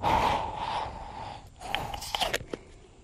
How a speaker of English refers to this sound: He's talking to the water. He's shaking it. He's putting it under his arm. He's breathing into the water.